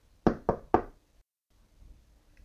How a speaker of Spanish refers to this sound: Pedro llama a la puerta del señor Martínez.